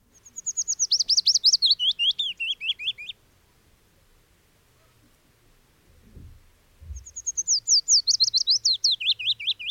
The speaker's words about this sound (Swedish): Alltså, är inte alla fåglar väldigt lika? De är ganska lika. De kvittrar ju allihopa.